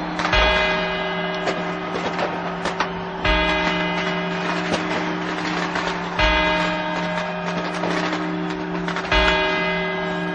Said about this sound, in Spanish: Unos 7 segundos después, que es lo que tarda en bajar la bola, comenzarán los 4 cuartos de las 2 campanadas laterales. Estos son los 4 cuartos.